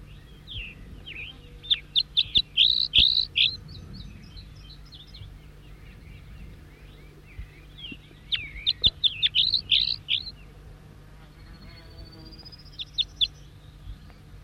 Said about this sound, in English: Four, three, and back responding with the same song phrases. Wild bird.